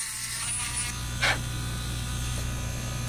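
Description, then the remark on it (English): A small drill whirs with a steady, buzzing motor hum throughout, with a brief, sharper grinding burst partway through as the bit bores into a dyed eggshell so the yolk can be suctioned out, in a small kitchen at a museum. No one speaks. “After they're done with multiple rounds of color dyeing, students huddle just outside a small kitchen at the museum to watch Chichula drill and suction the yolk out of the eggs.”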